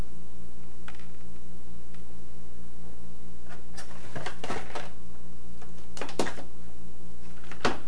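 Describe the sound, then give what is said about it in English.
Plastic clicks and rattles of a child-safety oven door lock being handled, a few sharp snaps clustered in the middle and end over a steady low hum, with no talking. “Now this is an oven door lock.”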